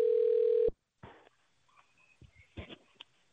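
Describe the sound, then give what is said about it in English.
A single steady ringback tone purrs over a phone line for under a second as a number is dialed for a giveaway call, then cuts off with a click as the call is answered, followed by faint line noise and handling sounds. “Pick up the phone.”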